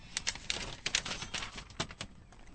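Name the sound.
paper rustling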